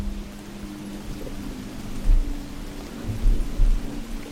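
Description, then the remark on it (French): Steady rain hisses over a deep, rumbling thunderstorm, with low thunder swelling in a few heavy rolls against a faint constant hum. “Alors qu'autour de vous, les animaux rejoignent leurs abris pour se protéger de la tempête qui se lève”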